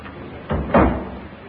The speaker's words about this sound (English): I don't think that was it. No, sounded more like a door closing.